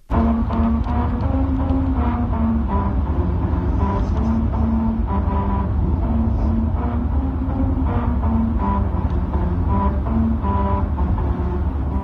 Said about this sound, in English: On a stretch of highway in Fujairah in the United Arab Emirates, there are rumble strips that sound like Beethoven's Ninth, aka Ode to Joy, when you drive over them. Here's what that sounds like from inside a car.